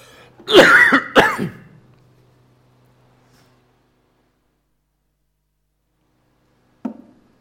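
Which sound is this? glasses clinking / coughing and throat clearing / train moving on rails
coughing and throat clearing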